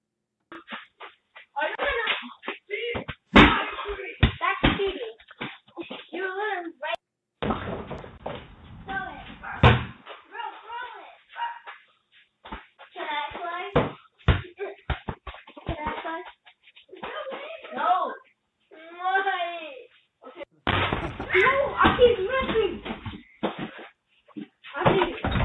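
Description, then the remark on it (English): Balls bounced by playing children thud against an apartment wall and doors in a few heavy, irregular bangs, some in quick bursts, while people talk and shout over them indoors. “Ring camera footage shows a woman confronting children loudly playing and bouncing balls against apartment wall and doors.”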